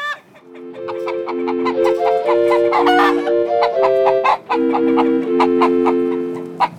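The hen Mimi clucks in a drawn-out, plaintive way, loud, while her five chicks peep sharply and continuously behind her.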